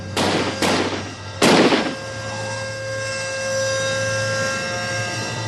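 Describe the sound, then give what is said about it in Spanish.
Three loud gunshots ring out, the first two in quick succession and the third after a short pause, each with a brief echoing tail, followed by a steady low background hum. These are the shots on a Monday night in the shooting of MP John Newman, as heard by his neighbour at home. “El vecino de Newman, Derek Murphy, está en casa aquel lunes por la noche y oye los disparos.”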